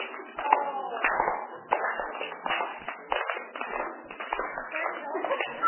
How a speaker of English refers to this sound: Can you see my hands crossing? Yes. Well, then clap when they cross.